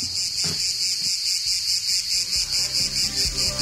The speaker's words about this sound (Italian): Per il radiodramma napoletano devo per forza aspettare l'estate con l'arrivo delle cicale.